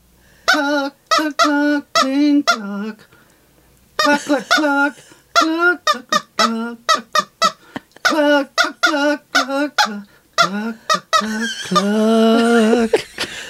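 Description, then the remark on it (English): A squeaky toy chicken is squeezed over and over in quick bursts of honking squeals, pausing briefly between runs, then ending on one long, drawn-out squawk. The squeaks are loud. “We're going to have to buy a bigger boat and a better chicken.”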